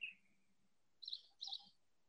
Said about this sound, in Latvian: Es nezinu, kas tas ir kaut kam putnis.